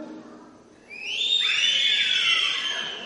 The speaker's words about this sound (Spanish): Aquí la gente sí sabe silbar, los hombres y las mujeres. Fíjense cómo funciona un grupo, una comunidad cuando está unida. A ver, ¿cómo es que los hombres cuando le van a dar un silbido de homenaje a Cristo, cómo hacen?